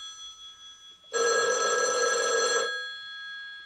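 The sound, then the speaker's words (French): A home telephone bell rings once in the evening in a loud, buzzy burst lasting about a second and a half, then stops abruptly, leaving a faint hum. No one speaks. “Son téléphone sonne.”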